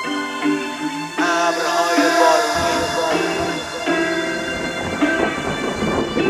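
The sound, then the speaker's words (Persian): Loud, rolling thunder with a steady wash of heavy rain, continuous for several seconds and layered over sustained musical tones, with no voices. “وقتی آسمون بغزش ترکید و با صدای فریادش شد اشک شاری، من دعوت بودم در اون مهمانی، در ضیافت بزرگ خیابون با هنرنمای ابرهای بارونی.”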